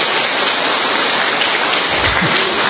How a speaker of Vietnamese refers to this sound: Tạ ơn Chúa và cảm ơn nhau một tràng pháo tay thật lớn thưa anh chị em.